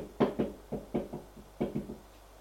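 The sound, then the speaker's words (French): Someone knocks on a door in two quick bursts: a run of about five firm, hollow raps, a short pause, then three or four more. No one speaks. “On frappe à une porte.”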